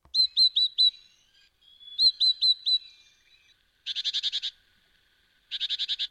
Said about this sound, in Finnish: Oi, tämä on kotoisin tuolta Keski-Euroopasta, vuoristoalueelta. Tämä on pienikokoinen lintu ja se on alppikalkkuna. Kyllä, sen tunnistaa keltaisesta rinnasta.